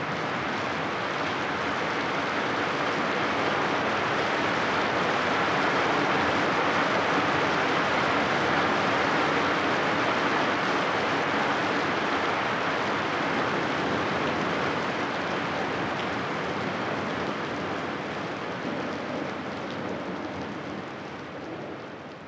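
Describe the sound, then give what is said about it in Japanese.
Heavy, steady rain from a spring thunderstorm pours down in a dense hiss, growing heavier as the thunder passes, with low thunder rumbling underneath, fading slightly toward the end. No voices. “次第に雷が通り過ぎていくのを追いかけるように雨足が大きくなります。”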